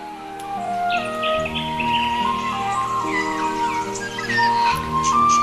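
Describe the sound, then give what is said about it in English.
Birds singing in Australian bushland: a busy chorus of bright chirps, trills and whistles from several birds, with steady held tones running underneath throughout. “And in between the rustling leaves, the birds singing, you start to hear this.”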